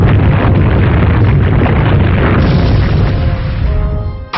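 A video game Earthquake attack effect, used by Leonidor against the foe Auto Sun in a battle: a loud, sustained low rumbling boom with crunchy debris texture, rolling for several seconds before trailing off with a faint tonal ring at the end.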